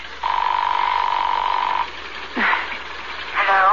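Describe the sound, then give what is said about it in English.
A telephone rings once with a steady, buzzy trilling tone lasting about a second and a half after a home number is dialed from New York, followed by a pause and a couple of short, sweeping voice-like sounds. “It's ringing.”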